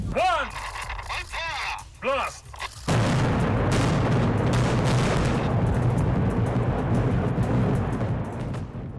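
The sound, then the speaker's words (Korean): Brief voices call out, then a sudden powerful demolition blast erupts as North Korea blows up tunnels 2, 3 and 4 of the Punggye-ri nuclear test site on May 24, followed by a loud, sustained roar of rumbling debris that continues for several seconds before slowly thinning. “네, 지난 5월 24일 북한이 풍계리 핵실험장을 폭발했습니다.”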